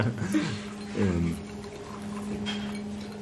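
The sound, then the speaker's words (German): Liquid is poured into a glass in a couple of short gurgling bursts during a drinking break, moderately loud, followed by quieter handling noises and a faint sip against a low steady background hum. “Entschuldige bitte, aber wir müssten regelmäßige Trinkpausen haben.”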